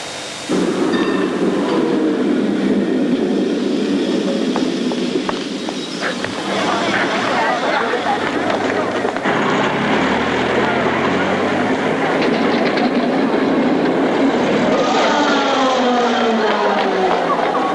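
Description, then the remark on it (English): Trams packed with passengers rumble and clatter along the rails of a cleared street in a loud, continuous wash of city noise, with a crowd's busy murmur and indistinct voices mixed in throughout. “Cleared the street and trams went by.”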